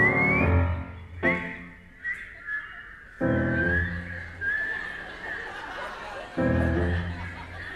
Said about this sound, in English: Now we whistle together, ready?